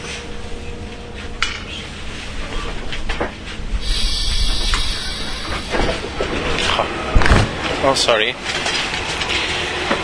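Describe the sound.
Inside a train at a station stop, as a passenger gets off, a steady rumble and hiss give way to the doors sliding open with a mechanical whoosh and clunk, amid clattering and faint background voices.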